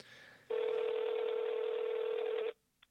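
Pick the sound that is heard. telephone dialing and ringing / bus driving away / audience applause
telephone dialing and ringing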